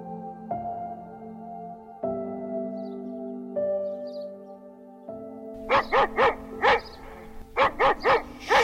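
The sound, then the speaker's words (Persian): A dog, bought together with the new house, barks in two quick bursts of about four sharp barks each, after several seconds of steady sustained musical tones that shift pitch in steps. “سگم که خریدی؟”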